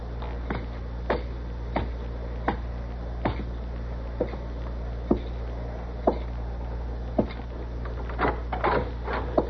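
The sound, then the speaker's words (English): A chair is hoisted and shifted about, giving a string of soft wooden knocks and clacks at uneven intervals over a low steady hum, quiet, with no talking. “Be quiet while I get over here and hoist this chair.”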